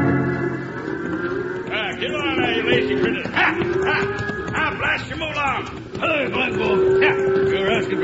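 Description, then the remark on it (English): A cattle herd being driven to Dodge City, with a steady jumble of hoofbeats, drawn-out lowing and a few barks mixed in, busy throughout. “These are my cows, and I got to get them to Dodge City before Toby Tyler drives his in.”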